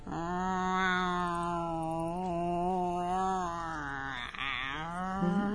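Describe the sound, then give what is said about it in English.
A cat named Voodoo lets out a long, drawn-out yowl, loud, wavering in pitch for several seconds without a break and rising into a strained cry near the end. “This cat is behaving oddly as well.”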